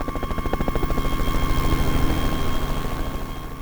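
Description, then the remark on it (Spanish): A police and army search helicopter's rotor thumps in a steady, rapid chop, loud as it passes overhead, with a continuous engine drone underneath and no voices. “el 23 de febrero, la policía y el ejército se unen a la búsqueda con helicópteros y oficiales por tierra.”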